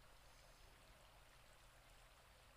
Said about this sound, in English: As you can imagine, water sources like these are not common in the desert. We make sure to build our camp close to one.